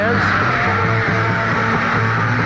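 A dense, loud roar of a concert audience at the Hollywood Bowl screaming and shouting continuously, filling the space with high-pitched overlapping yells, with faint traces of the band performing on stage buried underneath.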